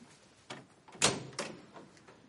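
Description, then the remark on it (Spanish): A door opens with a few quick mechanical clunks and a rattling thump, the strongest knock in the middle, moderately loud with no voices, as a man opens his door to receive guests. “Delfín va a abrir la puerta.”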